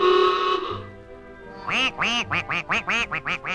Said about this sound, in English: A lot of ducks out on the pond. Ducks sure take to the water like, ducks.